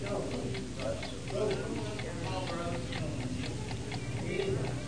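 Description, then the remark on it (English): A clock ticks steadily at a regular, even pace, the crisp clicks standing out over a continuous low hum and murmur of voices in the background. “In eternity there's no clocks ticking.”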